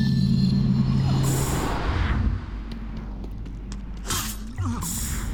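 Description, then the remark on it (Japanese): A video game shadow barrier spell effect: a loud, steady low drone with a dense swirling rumble, broken by several bright hissing whooshes that flare up and fade. “あ、俺が張って最初に張ってたシャドウバリアの音かな。”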